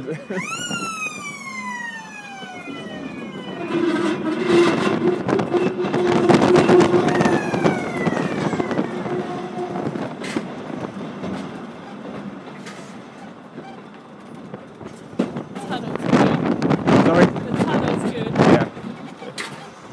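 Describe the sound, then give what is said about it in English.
At a level crossing where people keep crossing, a loud train horn blares with falling, sliding tones over a steady ringing crossing alarm, while the rumble of a passing train builds and continues underneath, with people talking over it. “You'd think the alarm plus the horn and everything would...”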